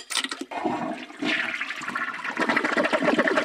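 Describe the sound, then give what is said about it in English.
A toilet flushes coins away, a loud gurgling rush of water that swells after a brief dip and churns steadily for a few seconds, with no voices. “In the recession, it got flushed right down the toilet.”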